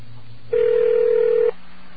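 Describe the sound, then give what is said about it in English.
A single steady touch-tone beep from a telephone keypad while using Stony Brook's telephone registration system, lasting about one second at a constant mid pitch, over a faint background hum of the phone line. No one speaks. “It's basically a telephone registration system. You use touch tones to register or deregister people, add courses”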